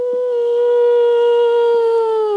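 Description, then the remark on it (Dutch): A single long, steady wolf howl holds one pitch, rich and clear, sounding close and fairly loud, with only a slight droop near the end and no voices. “De wolven, fluistert Daniel. Ik hoor ze 's nachts heel vaak huilen.”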